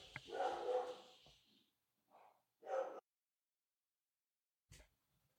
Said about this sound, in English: Okay, geez, freaking dogs, man.